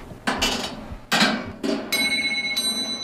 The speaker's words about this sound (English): There's a ball machine over here. This is hand-powered.